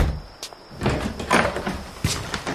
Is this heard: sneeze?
no